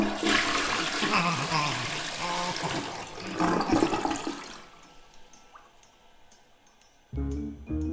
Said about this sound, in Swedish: Bara en sak kan få Ola Tola på gott humör. En skön dusch.